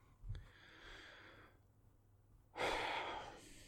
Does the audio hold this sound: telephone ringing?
no